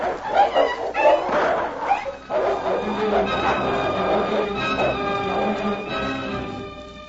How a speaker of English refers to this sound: It is a dog. He's fighting at Tara's side.